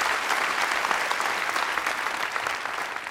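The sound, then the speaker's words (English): A steady wash of audience applause, dense overlapping claps holding a fairly even, loud level throughout with no voices standing out. “As an academic scientist in the US, I'm not used to being interrupted by applause.”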